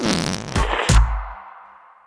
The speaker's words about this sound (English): If everyone knows the whoopee cushion, why does no one get credit for it? Is it a brand? A name?